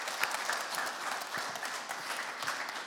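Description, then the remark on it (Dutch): An audience applauds the Lord steadily, a dense wash of many hands clapping at an even, sustained level with no voices standing out. “Geef hem ook een applaus.”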